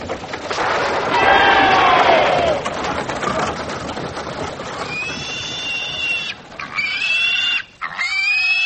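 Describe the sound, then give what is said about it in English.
Pigs oink and squeal loudly, with a long, high, wavering squeal early on and several sharp, rising squeals near the end over a steady background of grunting; a very large pig killed by the squire for a celebration of Wellington's victory at Waterloo. “Oh, biggest pig you've ever seen in your life.”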